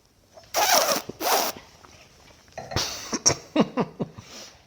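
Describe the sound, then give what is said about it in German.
Two drawn-out, hissing slurps of a sip of schnapps during a tasting, followed by a burst of short sputtering coughs and gasps as the slurping whirls up the alcohol, with no talking over them. “Ich mag das immer ganz gerne, wenn ich es vormache, aber durch dieses Schlürfen wirbelst du den ganzen Alkohol auf und so wie es jetzt gerade bei mir passiert ist, ballert dir der Alkohol dann eben komplett einfach gefühlt”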